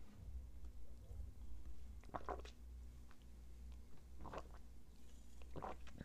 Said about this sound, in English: This next one is a significantly more fun topic, and let me just go ahead and get a sip of this energy drink while we're at it.